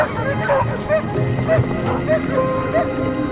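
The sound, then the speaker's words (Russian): A pack of sled dogs brought by race participants in Chukotka, Russia, barks and yips in a constant, overlapping chorus, sharp yelps repeating every half second or so over a busy, noisy outdoor background. “Из разных концов Чукотки прибывают участники с собаками.”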